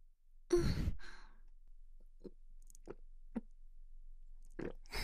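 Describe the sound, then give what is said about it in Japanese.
A sharp breathy exhale opens, followed by four or five soft, evenly spaced swallowing gulps of a woman drinking, quiet, with no talking. “それじゃ飲んじゃうわね。”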